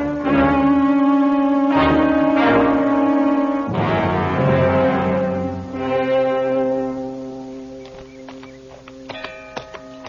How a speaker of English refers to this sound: Do they always ring bells? To tell us a stranger is in the pass, it is guarded.